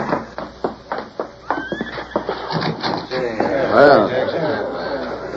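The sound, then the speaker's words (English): Hooves clip-clop in a steady rhythm, then a horse gives a loud, quavering whinny near the end, with a few faint voices murmuring underneath, as riders arrive at a cabin set among trees and a man takes charge of the horses. “A man stepped from the house and took charge of the horses.”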